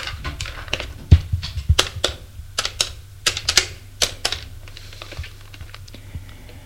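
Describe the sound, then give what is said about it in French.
A telephone number being dialed by a man at his office one morning: a quick, irregular series of sharp mechanical clicks and taps, some louder than others, over a faint low hum, with no voices. “Il fait un numéro de téléphone.”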